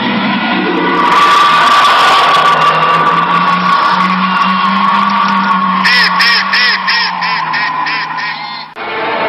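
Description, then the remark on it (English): A loud, drawn-out howl attributed to a Sasquatch-like creature reported around Falk, Arkansas, holds a steady low pitch with rough overtones, then breaks into a quick series of pulsing, wavering wails before cutting off abruptly. No one speaks. “And that this creature, whatever it is, emits one of the most terrifying sounds ever recorded.”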